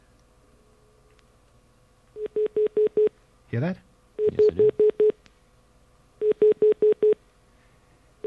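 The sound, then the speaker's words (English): A malfunctioning phone line, line 10 of a phone system, stuck repeating a steady mid-pitched tone in quick bursts of about five beeps per group, with three groups so far and short spoken exchanges between them; it repeats indefinitely, restarts when hung up, and its cause is unknown. “Some bizarre malfunction with our phone system.”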